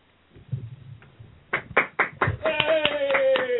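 A burst of applause greeting two airline pilots starts with a few sharp claps, then swells into steady, dense clapping alongside a high whistle or cheer, following a low murmur of background noise.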